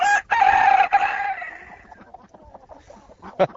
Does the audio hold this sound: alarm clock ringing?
no